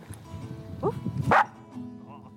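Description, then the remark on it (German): A dog being trained to bark on cue for film sets barks twice in quick succession, a short higher yelp followed by a louder, sharper bark, then a quieter stretch with faint background sound. “Wenn es dann heißt, der Hund soll da irgendwie aus dem Körbchen bellen kommen, ich hole mir dann die Tipps vom Trainer.”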